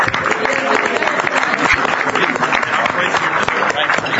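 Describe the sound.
An audience applauds steadily as a publications chair is introduced to present publications awards, a dense wash of many hands clapping at even loudness for several seconds, with a faint murmur of voices mixed in.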